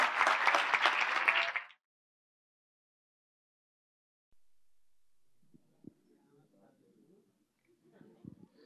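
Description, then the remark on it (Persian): A loud, dense burst of audience applause for a speaker after his lecture fills the first couple of seconds, then stops abruptly into silence, followed by faint low voices and murmurs. “تشویقشون بفرماییم.”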